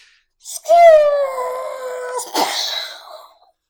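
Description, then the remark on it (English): A voice mimics a car crash, a light rear-ending in traffic: a sustained, slightly falling vocal whine like skidding tires, then a short, harsh burst of breathy noise for the impact, fairly loud. “I'm just trying to find the right sound for a car crash.”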